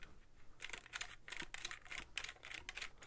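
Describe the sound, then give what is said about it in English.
A camera's film advance lever, set in a round dial, is pushed back and forth with quick strokes to advance the film and reset the shutter, making a dry ratcheting clatter of repeated mechanical clicks in an irregular rhythm, with no voices. “The other thing that's kind of cool on this is the film advance.”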